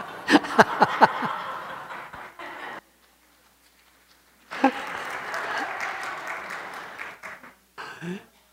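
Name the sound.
audience clapping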